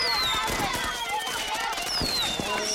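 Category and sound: sound effect, fireworks going off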